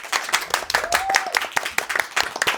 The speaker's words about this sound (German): Ein kleiner Applaus